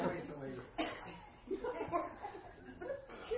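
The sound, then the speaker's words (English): Several scattered coughs break out from audience members, sharp bursts at irregular intervals mixed with low murmuring and a bit of chuckling. “Anyone else who wants to cough now?”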